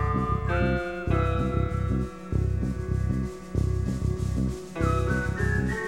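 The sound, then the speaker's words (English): A whistled, sliding cry like a hawk's call rings out twice over a steady, rhythmic musical backing, clear and fairly loud, with no one speaking. “And a hawk whistles and he kneels and he lays down there.”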